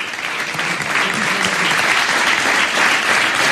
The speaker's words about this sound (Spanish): Bueno, y el aplauso de los presentes, no sé si por la euforia, embriagados de euforia y de alegría,